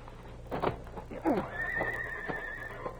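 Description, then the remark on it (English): One of the Clayton horses neighs, a shaky rising-and-falling whinny that trails off into a long, thin high note, with faint background noise and possible hoof clops underneath. “Those are the Clayton horses, all right.”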